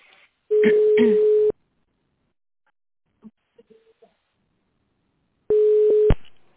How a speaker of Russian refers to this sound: Если вы знаете внутренний номер сотрудника, наберите его в телефон.